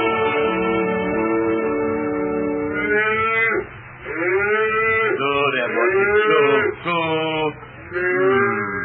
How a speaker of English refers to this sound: I've got southern cows in one half of the meadow, divided into age groups. And northern cows in the other half.